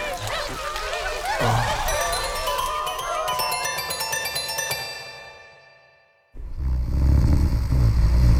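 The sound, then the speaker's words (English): A truck engine revs with a rising, whining tone that fades away, then after a brief lull a loud, low rumble of the truck driving takes over. “And while I slept, I was taken onto a truck and transported towards the city.”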